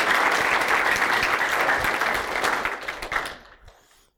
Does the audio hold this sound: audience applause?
yes